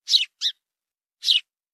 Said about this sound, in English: Take a look at that sparrow.